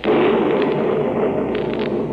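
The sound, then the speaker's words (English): A loud, sustained rumble of thunder during a storm, a dense roar spreading across low and middle pitches that holds steady for a couple of seconds with faint crackling flickers near the end. “Didn't you ever hear thunder before?”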